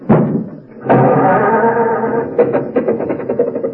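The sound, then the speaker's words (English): An old car engine coughs, then catches and settles into a rough, rattling run that breaks into uneven sputtering pulses near the end. It is loud, and no one talks over it. “Now, look, stop with the jokes and start the car, will you?”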